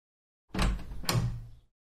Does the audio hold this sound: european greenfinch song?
no